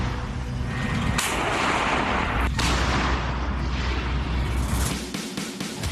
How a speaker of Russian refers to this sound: Бильд с пометкой «Эксклюзив» публикует кадры и работы немецких гаубиц ПЦХ-2000. Эти еще, видимо, не вышли из строя.